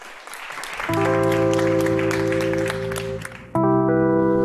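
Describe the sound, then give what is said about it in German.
An audience claps steadily and fairly loudly throughout, and within the first second sustained synth-like intro music chords swell in over the applause, shifting to a new chord near the end. “Applaus.”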